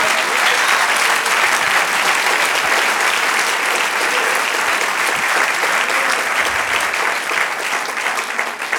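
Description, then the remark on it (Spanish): Sustained applause from an audience, given to the Lord, a dense, steady wash of many hands clapping at an even, loud level for the whole stretch, with no voices standing out. “Un aplauso al Señor.”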